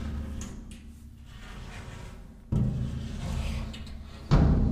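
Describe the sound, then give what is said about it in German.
Heavy wooden parts of an altar, made of four movable pieces, scraping and sliding as they are shifted, with low rumbling drags and two distinct bumps as pieces shift into place, fairly loud with no voices. “So klingt es, wenn einzelne Teile verschoben werden.”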